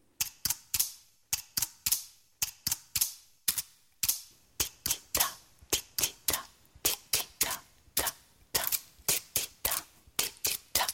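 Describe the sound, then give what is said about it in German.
Two pine cones knock together again and again in quick, uneven bursts, each hit a dry, sharp woody click with a short decay. No voices are heard. “Was klopft denn da? Ein Zapfenpaar.”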